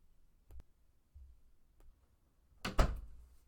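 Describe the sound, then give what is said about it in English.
A bathroom door swings shut with a solid thump and a brief rattle, preceded by a few faint clicks and soft handling noises, otherwise quiet. “Would you please shut the bathroom door, too?”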